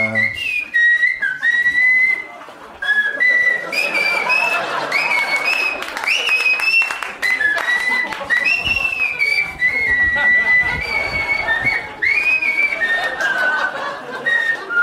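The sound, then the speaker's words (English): A person whistles a wandering tune, the pitch sliding and fluttering between notes, over a busy bed of crowd noise with scattered clapping and a few chuckles. “People probably think you whistle all the time on your podcast.”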